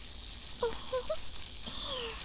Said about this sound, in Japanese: これをまずは手のひらでよーく泡立てていきます。シュワシュワパチパチ、耳元で炭酸の泡が弾けてるの、わかりますか？